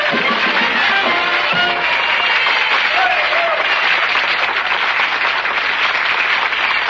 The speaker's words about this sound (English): Now, that's interesting. Some real live people applauded. Human beings.